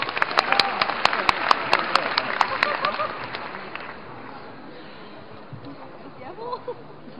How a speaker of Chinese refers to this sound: 感谢您各位的掌声鼓励， 谢谢大家， 非常高兴啊！ 哎， 能得到您的掌声，说实话心里边很惭愧。